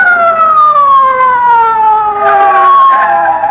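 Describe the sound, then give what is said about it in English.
A police car siren wails loudly as the car approaches, its strong steady tone sliding slowly downward in pitch over a few seconds, with faint road rumble beneath and no voices. “Look, here comes a police car.”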